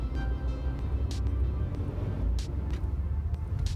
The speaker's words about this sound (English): Hey, big truck.